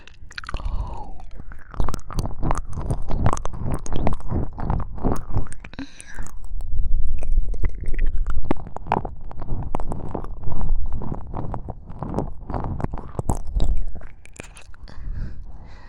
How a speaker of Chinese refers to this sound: 你是第一次体验被人舔耳朵吗？